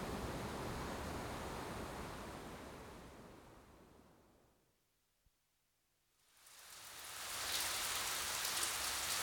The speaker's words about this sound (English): Oh no! We can't play football today. It's raining.